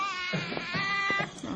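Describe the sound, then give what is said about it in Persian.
A baby cries in a steady, high-pitched wail that wavers slightly, fairly loud, with faint murmuring or movement underneath. “بچه چرا گریه میکنه؟”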